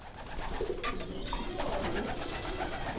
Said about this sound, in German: Aufgeregt flattern und schnattern sie durcheinander, die vielleicht 2 Dutzend weißen Tauben in ihrem Holzverschlag auf dem Biocampus der LMU in Martinsried bei München.